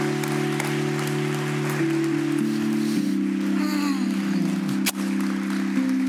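An audience at Wellspring claps steadily for about six seconds, applauding the speaker leading his son to Christ: a dense, even patter of many hands over sustained low keyboard chords that shift pitch a few times. Nobody speaks.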